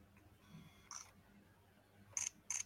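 A camera set to low-speed continuous shooting in electronic shutter mode fires three times in a slow burst, each a crisp, bright mechanical snap, with a pause before the last two arrive in quick succession over a quiet background.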